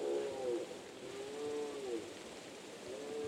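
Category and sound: animal, deer bellowing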